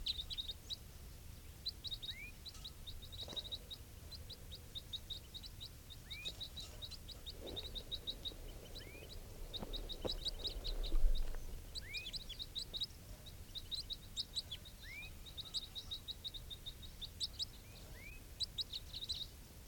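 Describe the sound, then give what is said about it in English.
Soft, high-pitched calls of a wild bird repeat steadily throughout, short chirps with occasional upward-sweeping notes, over a low rumbling background and a few faint thumps. “Recording, these are the calls of one of the wild birds.”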